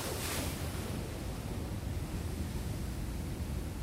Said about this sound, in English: Eight, the ocean.